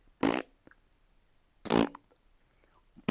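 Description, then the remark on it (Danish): A person blows two loud, short raspberry-style fart noises with their mouth, imitating the sound a frog makes with its bottom when it lands on the ground, spaced over a second apart, then starts a third at the very end. Quiet pauses fall between the bursts. “Så den laver pruttelyd med sin numse, når den lander på jorden.”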